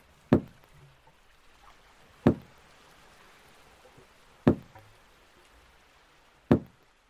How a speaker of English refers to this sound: It was even more towards the stern, this sound, as if something was hitting the side of the boat.